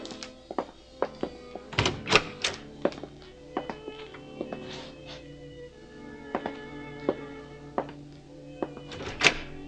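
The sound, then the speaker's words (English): The door to a married couple's room is handled, opened and shut with a run of hollow thunks and sharp knocks at uneven intervals, with no one talking. “That door. My room and my husband's.”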